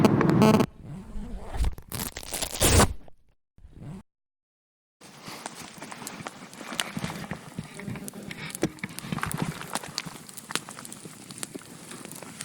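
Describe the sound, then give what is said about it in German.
Loud rustling and crackling, a few heavy bursts at first, then a brief silence, followed by a steady stretch of dense, scratchy rustle with small clicks throughout. “Vor allem sagt der Typ, der Raschel-Raschel hier. Genau, Raschel-Raschel.”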